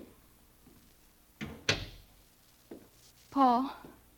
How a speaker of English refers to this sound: I opened the door for him.